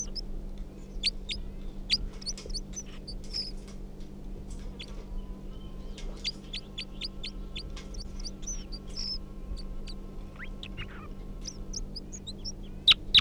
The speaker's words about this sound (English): That was 327, responding to the call of the wild bird. And 305 song. Now pointed back up at the wild bird, who's giving a few calls.